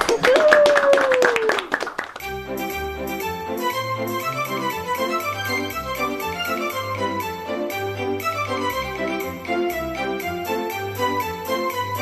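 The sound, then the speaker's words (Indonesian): A short burst of rapid hand clapping, applause for everyone, with a high, gliding cheer-like voice over it for about two seconds, then a bouncy music track with steady bass notes takes over. “Baiklah, mari tepuk tangan untuk kita semua.”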